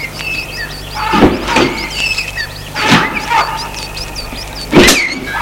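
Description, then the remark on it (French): A few sharp car-door clunks and rustles as people climb out of a parked car on arriving at a retirement home, spaced over several seconds, with birds chirping steadily in the open air behind. “Ils sont arrivés à la maison de retraite. Sortent de voiture.”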